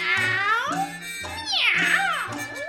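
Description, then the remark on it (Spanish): A cat meows several times in quick succession, each call rising and falling in pitch, loud with no talking, with a lower drawn-out yowl running beneath. “Más atrás veo al buen gato Félix, que se ha lavado el copete con saliva.”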